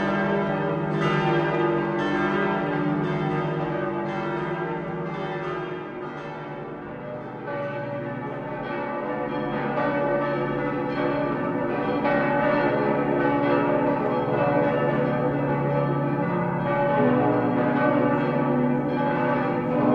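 Church bells ring continuously in a full, overlapping peal, their strikes blending into a dense, sustained wash of tones with long resonant decay, steady and loud throughout with no voices. The bells are in Rothenburg ob der Tauber. The bell was cast in 1626–27 by two itinerant founders from Lorraine, Petrus Bolivilius and Caspar Delson.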